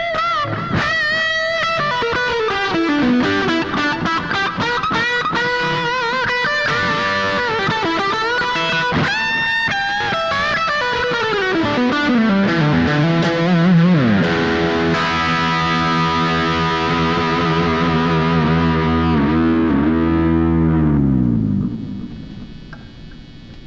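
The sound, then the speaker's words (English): An overdriven electric guitar played through its humbucker pickup plays a thick, gritty solo with wide pitch bends and slides, then sustains a ringing chord that cuts off near the end. There is no talking. “Go to the humbucker.”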